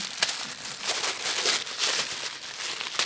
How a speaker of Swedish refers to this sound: Och lite prasselpapper också.